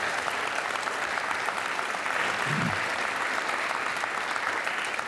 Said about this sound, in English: Can we actually give one more round of applause to the VBS folks, volunteers and kids?